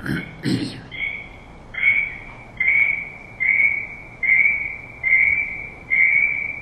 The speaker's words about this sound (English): Can someone mute your phone? We have a fire alarm going off. If you could mute your phone. Is that a fire alarm? Sounds like huh? Sounds like, you know, an alarm where the battery's going down. We all have experienced that.